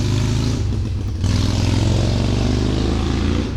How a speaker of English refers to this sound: A very large motorcycle drives away. We're not that far from the street.